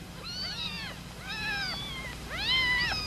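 A mother cat in a barrel with her kittens meows three times in quick succession, each call long and drawn out, fairly loud over a low steady background hum, with no talking.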